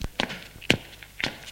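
Three footsteps at a steady walking pace along a corridor toward a back room of a shop, each a short, crisp thud on a hard floor, with quiet pauses between them and no voices.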